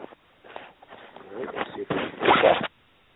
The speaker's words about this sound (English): I hear like a rustling sound from your end. A rustling sound. A rustling, something like as if like you're walking through some leaves.